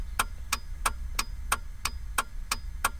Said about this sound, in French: qui faisait taper contre un rebord, donc tic-tac, tic-tac, et c'est devenu le clignotant